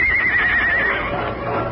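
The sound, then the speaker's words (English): A white stallion answering its master's call in the moonlight lets out a loud whinny, a single shrill quavering neigh that wavers for about a second and then fades into a rough, noisy background. “Like an arrow seeking its target, the great stallion answered his master's call.”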